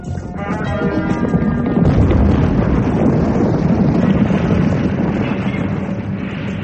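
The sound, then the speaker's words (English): A Cherokee aeroplane explodes into a ball of fire, a loud, dense roar that swells within the first half-second and then rumbles and crackles steadily without letting up, with no voices. “I stared at the exploding ball of fire that a minute ago had been a Cherokee aeroplane.”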